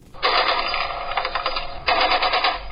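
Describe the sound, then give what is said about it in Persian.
Two long bursts of rapid automatic gunfire crackle in quick succession, dense and harsh with a brief gap between them, somewhat muffled, with no talking. It is celebratory gunfire at a wedding at night in the city of Sheberghan. “تیراندازی به مناسبت تجلیل از مراسم عروسی از طرف شب در شهر شبرقان تقریبا به یک کار معمول تبدیل شده.”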